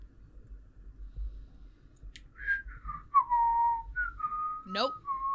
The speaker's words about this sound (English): He's going to whistle at me? Is that what's happening? No, that was me.